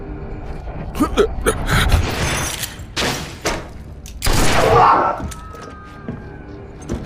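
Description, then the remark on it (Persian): A series of loud gunshots rings out in irregular bursts, mixed with thuds, scuffling and sharp gasps, with brief quieter gaps between the shots. “زود باش به پلیس زنگ بزن. صدای شلیک بود.”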